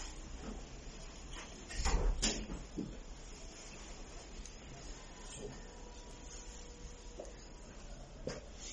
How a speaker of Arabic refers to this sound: إذا سمعنا طرقة الباب هذه عقلية غير طرقة الباب مو لغو. سماع الجرس لفظ مو لغو. فهذه دلالة عقلية غير لفظية. واضح أخواني؟ هذا سماع طرقة الباب.